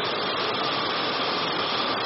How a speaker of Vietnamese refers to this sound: Sao tự nhiên mưa to vậy ra? Dưới cái ngòi nghe thấy thì không? Nghe rõ không? Vẫn nghe được đúng không? Tự nhiên bây giờ là tháng 10 rồi vẫn mưa to thế.